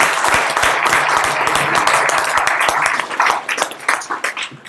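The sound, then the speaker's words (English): A small crowd bursts into steady applause, many hands clapping densely for about three seconds before the clapping thins into scattered, fading claps. “Also terrifying, but let's give him a round of applause for that at least.”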